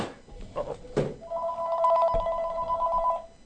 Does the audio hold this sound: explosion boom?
no